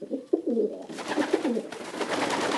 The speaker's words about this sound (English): And then, the messenger pigeon, fluttering to the lieutenant's hand with vital news. Today, messenger pigeons are called homing or racing pigeons.